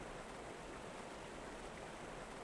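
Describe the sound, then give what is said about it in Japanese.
A gently babbling river of clear water flows steadily at a riverbank, a soft continuous rush and trickle with no pauses and no voices, at a low, calm level. “透き通る綺麗な水とせせらぎの音が心地いいね。”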